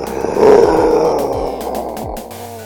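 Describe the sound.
A phone-in contest caller imitates a lion's roar: one loud, raspy, drawn-out growl that swells quickly, then slowly fades over a couple of seconds.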